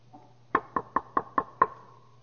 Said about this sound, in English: We all heard the little story about how one day fear came and knocked on the door.